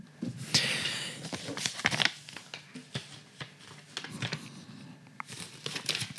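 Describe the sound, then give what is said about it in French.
About ten administrative papers rustle and crinkle, with quick irregular crackles and sharp snaps as the sheets are shuffled and handled, busy and continuous throughout with no talking. “Tenez, je les ai ici.”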